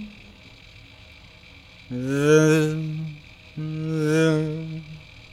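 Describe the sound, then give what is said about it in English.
Two buzzing, warped whooshes, each about a second long with a steady droning pitch that swells and fades, made by a voice imitating the sound of bodies teleporting through a magical portal, against a faint background hum. “Through this magical gateway, the villagers disappeared one by one, stepping into the unknown, each teleported body making a hushed, warped sound, whoop, like the zip of a bee caroming past one's ear.”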